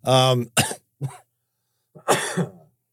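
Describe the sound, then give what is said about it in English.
A coughing fit of several harsh coughs in quick succession, a short pause, then one more loud, raspy burst of coughing. “So one of the other things that I thought of today on the run, as I didn't want to go out, and I have another cough going on. Oh my gosh.”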